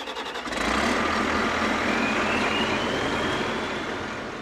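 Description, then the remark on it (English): A huge logging machine with a mechanical arm, claw and circular saw clear-cuts a stand of beetle-killed lodgepole pines and fir trees on a densely wooded slope of Elk Mountain, Carbon County, Wyoming. Its engine gives a dense, loud rumble with a thin mechanical whine rising faintly above it. No one speaks. “On a densely wooded slope of Elk Mountain in Carbon County, a huge logging machine sets about clear-cutting a stand of lodgepole pines and fir trees.”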